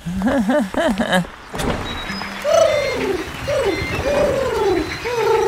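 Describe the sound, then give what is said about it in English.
A voice imitates a dove's cooing with a few quick, wavering coos, followed by a run of higher, swooping coo-like calls repeating steadily over a soft background hum. “Coo, coo, coo, we're birds.”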